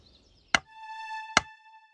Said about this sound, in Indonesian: Putri Maris terbangun karena ada seekor burung yang mematuk-matuk jendela kamarnya dengan keras.